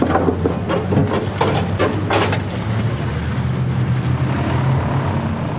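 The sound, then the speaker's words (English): A motorboat engine drones steadily as the boat pulls away from a jetty on the River Derwent, its low hum holding under a wash of water noise, with a few sharper splashy bursts early on as the boat gets underway. “So guys, we're going to just move away from the jetty and then we'll just take you out a little bit, then we'll tell you the real weather forecast, okay?”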